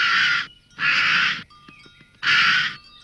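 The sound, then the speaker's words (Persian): Three loud, harsh caws from an injured crow with a wounded wing, each lasting about half a second, with short gaps between them and faint clicks and a thin tone in the second gap. No one speaks. “آه هیچ بلت زخمی شده. آه منو ببخش، من خواستم پرنده یک کوچیکتری بگیرم، برای همین کلم بال تو رو زخمی کرد.”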